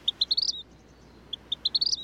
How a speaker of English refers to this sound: So I go on Google, I'm like, vermilion flycatcher bird song. And it's a very, very beautiful whistle, and it is very distinct.